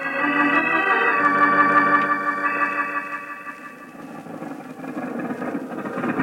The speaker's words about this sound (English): Your car ever sputter and cough like that? If so, you need K-Sight, for K-Sight cleans motors and keeps them clean